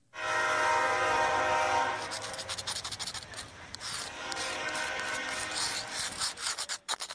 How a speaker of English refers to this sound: The howling freight train roars past a former go-kart track